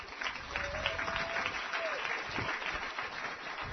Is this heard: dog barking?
no